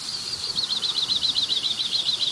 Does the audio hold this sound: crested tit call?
yes